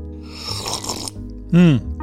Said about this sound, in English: No real monologue today, but whatever this monologue is sponsored by Winslow Tea, and I just drank it just then. You heard this slurp.